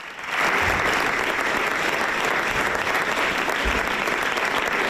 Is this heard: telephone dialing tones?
no